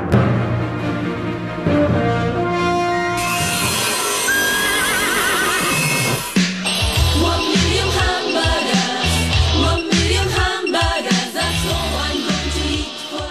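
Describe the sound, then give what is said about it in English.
Horse neighs and whinnies cut into a loud, dense musical mashup made from Black Beauty, with a bright, busy passage early on giving way to a choppy, rhythmic stretch in the second half. “Oh, rather distressingly, that was a Black Beauty mashup.”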